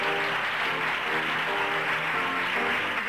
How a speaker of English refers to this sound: At the end of the reading, there is rapturous applause. The names of the cast are shouted out as they take a bow, and there are whoops and cheers from the small gathered audience.